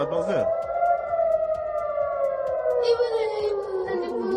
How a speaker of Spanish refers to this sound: Es el sonido de las sirenas en Israel ante el lanzamiento de un centenar de cohetes por parte de Hezbollah desde el Líbano.